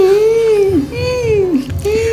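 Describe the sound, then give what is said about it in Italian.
Shrill, sobbing cries rise and fall in three drawn-out wavering wails, loud, over a low steady rumble in the background. “Gli ospiti vogliono sentire il rumore del pianto stridente di …”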